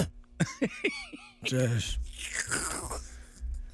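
A person lets out a few short voiced grunts, then a loud, harsh, raspy cough burst followed by breathy, rough throat noise, with no clear speech, in reply to a question about the mayor's flu.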